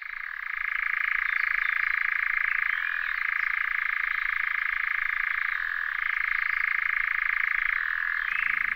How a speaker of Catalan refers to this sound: això és un enganyapastors, que és un ocell marró amb un plomatge variegat molt críptic